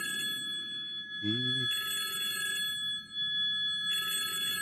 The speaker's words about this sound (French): OK, c'est comme chez nous, le téléphone sonne, personne ne répond.